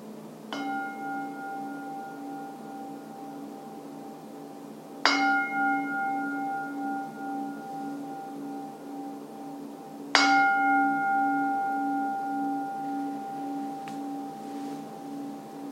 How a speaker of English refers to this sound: And I will now ring the gong 3 times.